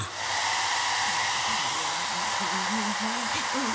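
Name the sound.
hair dryer blowing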